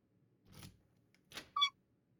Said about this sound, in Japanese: この音、鍵が落ちる音